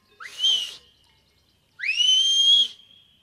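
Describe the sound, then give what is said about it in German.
An Alpine herder in Switzerland whistles loudly twice to call people to a large table in front of a hut under dark clouds, each call a sharp rising note that holds steady, the second longer than the first, with a short pause between and no talking. “Trotz der schwarzen Wolken bereitet er den großen Tisch vor der Hütte, pfeift die Leute herbei.”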